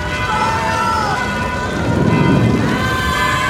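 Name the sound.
thunderstorm with heavy rain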